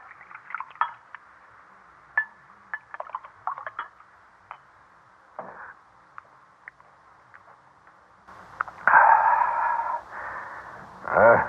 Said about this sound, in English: All right, sit down and pour the wine